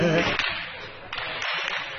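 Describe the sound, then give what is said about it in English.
Several sharp gunshots crack out at irregular intervals in a played video, sounding tinny, over a hissy, noisy background with a brief voice at the start. “Sounds like crackers going off, huh? Those are gunshots.”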